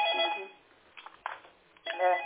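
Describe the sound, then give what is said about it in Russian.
A telephone rings with a bright, warbling electronic tone in two bursts separated by a short pause, clear with no talking over it. “Что за номер кто там? Да-да-да, по ответьте.”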